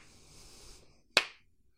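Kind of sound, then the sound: human body sound, slow clap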